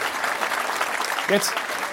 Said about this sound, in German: Jetzt merke ich so, ach, mit so einer Forderung, da kommt Applaus.